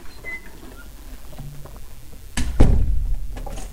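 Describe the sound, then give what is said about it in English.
A hotel room door is opened by a person with a dog named Vance: a sharp latch clack followed by a heavier thump and rumble as it swings, after a quiet stretch with faint rustling. “Opening the door, and Vance, come.”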